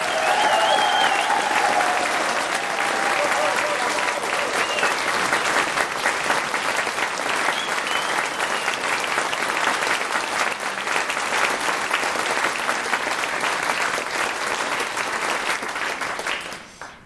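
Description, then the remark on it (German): Loud, sustained applause from a crowd for a man from Bern, a dense steady clatter of many hands clapping for about sixteen seconds before tapering off at the end, with no speech over it. “bitte auch einen ganz lauten Applaus.”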